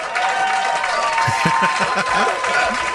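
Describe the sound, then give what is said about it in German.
A dense, steady wash of applause from a crowd, many hands clapping at once at a loud, even level for the whole stretch, with a murmur of voices mixed in. “Hier kommt ein Applaus.”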